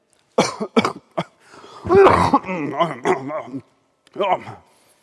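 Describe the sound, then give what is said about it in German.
A person gives three sharp, deliberate coughs in quick succession, then talks briefly in a clear voice before ending with one more short cough. “Ein Mann, verwahrlost angezogen, zusammenkauernd, der hatte den Auftrag, immer wenn ein Theo vorbeikäme, solle er husten. Husten.”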